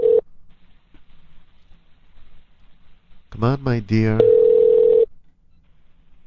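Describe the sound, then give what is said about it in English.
A telephone ringback tone: a steady electronic hum, heard as a brief burst at the start and again as a longer tone right after a short spoken phrase, with quiet pauses between. “Maybe it's not even ringing for her now.”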